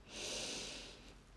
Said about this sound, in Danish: Tag en dyb vejrtrækning ind igennem din næse.